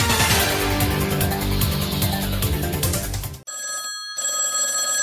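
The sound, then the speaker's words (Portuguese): A loud, busy stretch of music cuts off abruptly, followed by the telephone of Antena da Barata ringing: bright, steady tonal rings broken by one short pause. “Telefone da Antena da Barata.”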